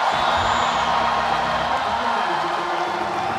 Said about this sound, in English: Now, if you've got a whole lot more than the three questions I asked you, I dare you to scream as loud as you can with both hands up, I'm rich and I know it.